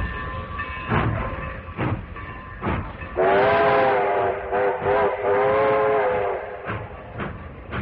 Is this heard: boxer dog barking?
no